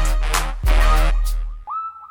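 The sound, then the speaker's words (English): A dense, bass-heavy electronic beat drops out, leaving a single sustained synthesized whistle tone that swoops slightly upward, bright and up front, like a drum-machine whistle sound. “And even the whistle noises on the track, the whistle percussion, sounds like it's just buttons on a drum machine.”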